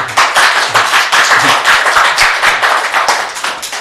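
An audience at a talk on Chinese art and the art market claps steadily to welcome a speaker, a dense, bright patter of many hands with no pauses, fairly loud and sustained across the whole stretch.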